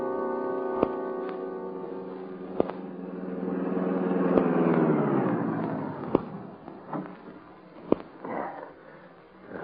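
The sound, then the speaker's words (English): The Green Hornet's car, the Black Beauty, hums steadily, its engine pitch climbing and swelling to a peak midway before easing off, with several sharp clicks or pops punctuating the drive. No one speaks. “Is the Black Beauty ready? The car's ready.”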